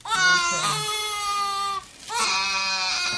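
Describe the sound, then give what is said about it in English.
A 15-month-old baby boy at the pediatrician, being vaccinated against measles, mumps, rubella and chickenpox, wails in two long, loud, high-pitched bursts with a strained, harmonic tone, breaking briefly for a sharp breath before crying again. “On this day, he's being vaccinated against measles, mumps, rubella, and chickenpox. He doesn't much like it.”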